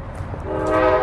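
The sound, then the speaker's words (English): A train horn sounds over the low rumble of a passing train, its steady tone swelling in loudness and holding as the rolling noise continues underneath. “We are now running to try to catch the train.”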